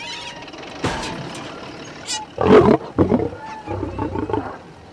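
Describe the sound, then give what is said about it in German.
A deep, rumbling roar from a lion in a jeep bursts out loud around the middle, followed by growling bursts, over a background of vehicle noise with a brief high-pitched beep. “So ein Löwe ist in den Jeep?”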